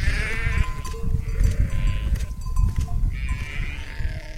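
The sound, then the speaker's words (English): A flock of sheep bleats in overlapping, wavering calls, several animals at once, as a shepherd's dog guides them to their sleeping place before dark, over a steady low rumble of outdoor noise and shuffling movement. “Before it gets dark, he whistles to his dog to guide the sheep to the place where they sleep.”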